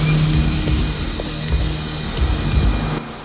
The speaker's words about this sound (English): The cleanhead puts on a beret and leaves, casually taking the torn note from the door. He gets into a waiting car and is driven off.